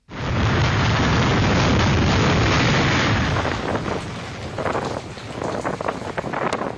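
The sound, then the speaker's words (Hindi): A loud, continuous roar of Hurricane Irma's winds, blowing at about 300 km per hour over France's islands in the Caribbean Sea, buffets the microphone, steady at first, then breaking into gusty surges with crackling bursts that suggest heavy rain lashing down. No one speaks. “करीब 300 किलोमीटर प्रति घंटे की रफ्तार से बह रही हवाएं हैं और भारी बारिश।”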